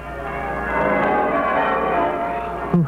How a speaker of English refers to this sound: A bright, shining morning, and the bells of the town pealing out there beyond his window.